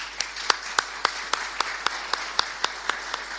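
An audience applauds at the prize presentation for a tapas contest winner, a dense wash of clapping with one set of sharp, evenly spaced claps standing out in a steady rhythm, moderately loud and without any talking.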